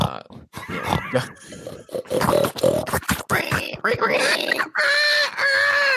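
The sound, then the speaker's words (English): A pig screeches in a string of loud, choppy squeals and grunts, ending in one long, sustained, high-pitched shriek. “Dude, what fucking pig have you ever seen a pig in your life make that noise? It's a fucking screech.”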